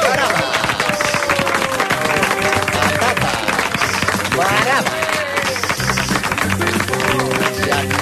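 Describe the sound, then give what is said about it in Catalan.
Studio applause: steady, dense clapping holds at an even loudness for about eight seconds, with voices and brief tonal sounds rising over the crackle. “Doncs els dedicarem a aplaudir-nos fenomenal.”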